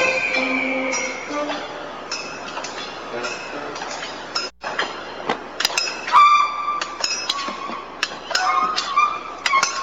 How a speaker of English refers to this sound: The dolphins are swimming across Hastings. Behind them are the five people representing Japanese fishermen beating on metal pipes and driving the dolphins towards the wall here.